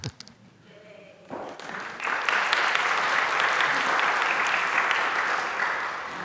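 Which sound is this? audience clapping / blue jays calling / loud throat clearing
audience clapping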